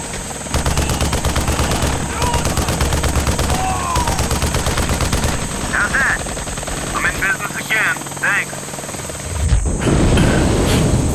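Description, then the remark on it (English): Rapid bursts of automatic gunfire from a battle miles away crackle over a steady rotor-like drone, with scattered shots and a chaotic battlefield din; muffled voices can be heard amid the noise. “The sounds of gunfire weakened a part of his mind that had lain dormant since he had been poisoned.”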